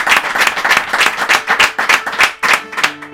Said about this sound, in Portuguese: portanto também aqui um aplauso nosso para eles dois.